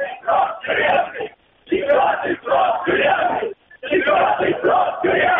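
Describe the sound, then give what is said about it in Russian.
A large protest march heading to Nevsky Prospekt chants slogans in unison, including "fourth term in prison", loud rhythmic bursts of many voices shouting together, broken by two brief pauses between repeated phrases. “Вот люди кричат, четвертый срок тюремный сейчас.”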